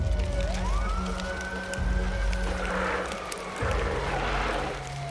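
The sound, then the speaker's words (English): A siren of Engine 3 from the Bremerton Fire Department, responding to a house fire, wails, sweeping up in pitch, holding a long steady tone, then sliding slowly down, all over a continuous low, rumbling engine drone. “Engine 3 from the Bremerton Fire Department rolled up in 5 minutes.”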